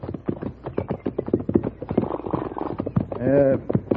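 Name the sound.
horses' hooves clip-clopping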